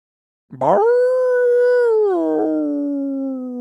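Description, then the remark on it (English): A single long wolf howl, loud, rising quickly to a steady sustained pitch before sliding lower toward the end. No other sounds or voices accompany it. “Moving on to the wolf desk.”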